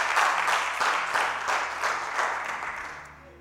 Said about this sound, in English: Just clap, even if you don't understand what I'm talking about.